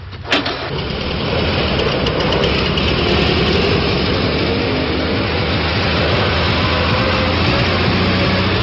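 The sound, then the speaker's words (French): The engine of cartoonist Cabu's old collector car cranks and catches at the start, then settles into a loud, steady, rumbling idle, with no one speaking. “On peut voir également à Châlons-en-Champagne, dans la ville natale de Cabu, à la Duduchothèque, de nombreux dessins de Cabu et aussi sa voiture qui vient d'y être transportée. Voiture de collection, bien sûr, que seul Cabu pouvait conduire.”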